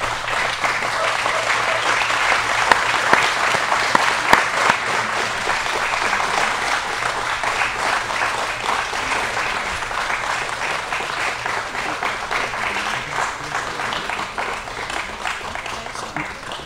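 A large audience breaks into sustained applause, a dense, steady wash of many hands clapping that holds evenly for the full length without talk over it.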